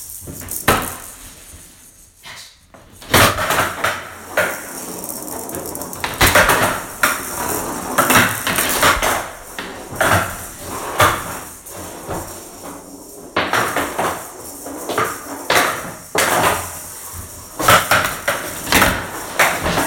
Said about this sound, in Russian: Здравствуйте всем, и сейчас продемонстрирую вам, как выглядит настольный теннис.